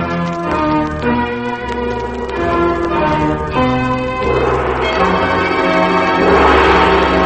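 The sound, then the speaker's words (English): Loud, resonant bell tones ring out one after another, their overlapping strikes blending into a dense, sustained wash of ringing overtones with no voices present. “The bell has rung in the night, and the air quakes with it.”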